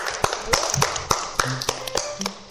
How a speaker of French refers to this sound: on vous applaudit en tout cas.